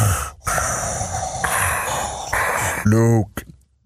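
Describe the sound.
A voice imitates Darth Vader's heavy mask-filtered breathing, with long hissing inhales and exhales in a steady rhythm, ending in a short voiced groan before fading out.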